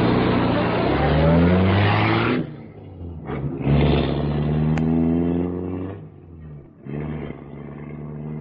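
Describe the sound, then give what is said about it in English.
A car engine starts pulling away, its loud motor rising in pitch through two or three surges as it accelerates and shifts gears, with no voices over it. “Here's your car, Lynn. Shall I see you home?”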